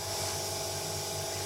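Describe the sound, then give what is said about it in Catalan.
A steady, continuous hiss of air being drawn through a laboratory vacuum filtration setup used to filter a turquoise copper dihydroxycarbonate precipitate, even and unbroken throughout, with a faint low hum beneath and no one speaking. “Preparat el muntatge de filtració al buit,”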